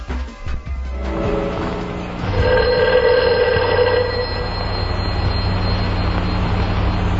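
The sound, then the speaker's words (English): A telephone bell rings steadily in a sustained, loud trill over a low droning hum, with a few faint knocks before the ringing starts. “Maybe that's Jack trying to find us. He'd know better than to use the phone.”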